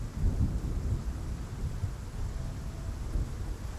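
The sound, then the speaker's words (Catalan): Heavy, steady torrential winter downpour hissing without pause, backed by a deep, rolling rumble of thunder that swells and fades. No voices, just the dense wash of a storm. “A les penalitats i als perills de l'èxode va ajuntar-se la impietat d'aquesta torrencial pluja d'hivern.”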